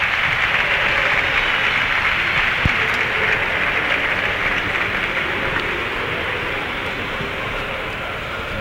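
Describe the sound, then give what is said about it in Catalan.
A large crowd in the Olympic stadium in Barcelona applauds loudly and steadily at the opening ceremony of the Olympic Games as the last members of the Spanish delegation parade in, a dense wash of clapping that holds at a constant level for the whole stretch with no voices standing out. “I en aquests moments, són forts aplaudiments, ho esteu sentint.”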